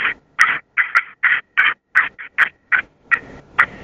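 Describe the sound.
Turkey cutting made on a turkey call: about a dozen sharp, loud clucks in a fast, uneven burst, with no voices.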